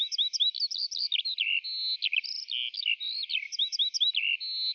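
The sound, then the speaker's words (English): Rapid, continuous high-pitched bird chirping from a nest fills the whole stretch, busy twittering notes tumbling over one another with no voices present. “Sorry, but with that nest around you, it's hard to hear what you're saying.”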